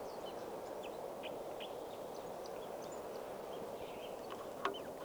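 red male bird singing

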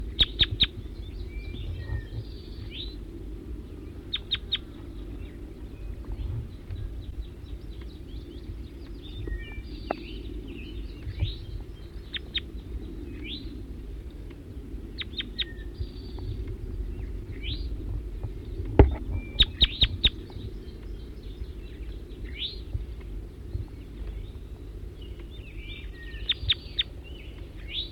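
wild bird calls

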